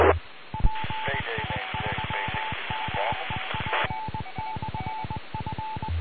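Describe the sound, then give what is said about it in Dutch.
The PI4 NPL amateur radio repeater, used for the Meppel ronde net, sends a fast string of short electronic tone pulses, beeping in a steady rhythm over a hissy, band-limited channel with brief bursts of static noise. “dat was de repeater eventjes.”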